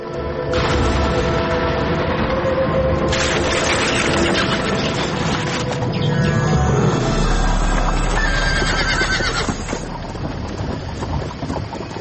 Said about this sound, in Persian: یک شب تاریک و هوا آلود بود و یک فامیل با اسب و گادیشان در سفر روان بودند.